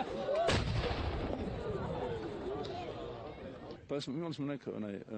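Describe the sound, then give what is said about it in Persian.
A single loud cannon blast, the daily shot fired in Sarajevo from the highest point overlooking the city to mark the end of the Ramadan fast and the time of iftar, booms out at the start, followed by a long rumbling echo over outdoor crowd noise; afterward, a voice begins the melodic, chant-like call to prayer. “همراه با صدای اذان، شلیک روزانه توپ از بلندترین محل مشرف به شهر نشانه پایان روزداری و وقت افطار می باشد.”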